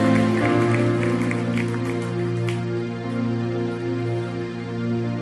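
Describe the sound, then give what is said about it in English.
An audience claps steadily during a sermon to bless the name of the Lord, a dense, continuous patter mixed with sustained, droning musical tones like an organ or keyboard holding chords underneath for the whole stretch. “Would you clap your hands and bless the name of the Lord?”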